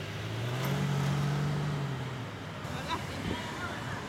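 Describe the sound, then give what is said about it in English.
A vehicle's engine hums low and steady, rising slightly then easing off as it rolls past in the morning car line of taxis and shuttles at Hidden Valley Elementary School in northeast Charlotte, with faint indistinct voices and general outdoor road noise behind it. “But every morning's car line includes taxis and shuttles bringing children from much farther away.”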